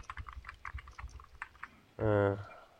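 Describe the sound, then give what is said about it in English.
Rapid, irregular clacking of a loud computer keyboard, keystrokes tumbling for about two seconds before a brief burst of a voice cuts in at the end. “Well, strange how I can hear you typing.”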